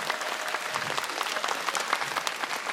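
An audience applauds a musical act after its performance, many hands clapping in a dense, continuous wash of sound that holds an even level for the whole stretch, with no voices standing out.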